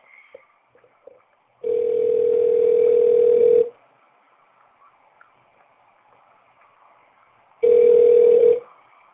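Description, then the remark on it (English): An outgoing phone call rings out with two long, steady electronic tones, the first about two seconds and the second shorter, separated by a quiet gap with faint line noise, before reaching an automatic voice message system. “Yeah, I reach out his phone number, so we want to have that over the air.”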